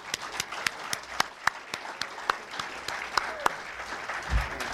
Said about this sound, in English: And we'd like to please give a big round of applause to tonight's featured speaker